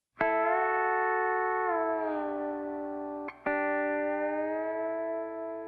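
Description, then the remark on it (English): A pedal steel guitar solo, played by a musician on the pedal steel he bought for this song, rings out in long, sustained notes that slide gently in pitch, a warm droning hum with one brief break before a second chord swells in, with no voices. “The pedal steel and its sort of ambient hum really feels akin to the story that's being told.”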